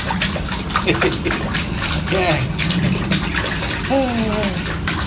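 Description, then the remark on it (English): Water sloshes and splashes steadily as a stick is stirred through a lake, with sharp little slaps over a constant outdoor wash; a person says a single word briefly. “That was just me putting a stick in the water because it's too cold to put my toes in.”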